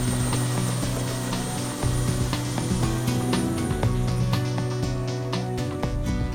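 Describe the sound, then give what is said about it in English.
A helicopter runs steadily and loudly, its deep engine drone layered with a rapid, rhythmic rotor chop and sharp clatters. Nobody speaks over the continuous roar. “Now get on the bird.”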